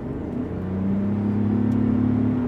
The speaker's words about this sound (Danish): Og nu er jeg så ude at køre på en toskansk landevej, og jeg har valgt et sted, hvor jeg kører op ad bakke. Fordi når jeg træder speederen i bund om et øjeblik, så vil I kunne høre, hvor lidt motoren den støjer. Så nu træder jeg på speederen.